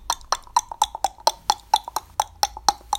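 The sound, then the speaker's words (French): Rapid, steady hoofbeats of the galloping horse Cyclone, with Father Christmas riding behind, a dozen or so sharp knocks in quick even succession, fairly loud, with no voices. “Le cheval partit comme une flèche.”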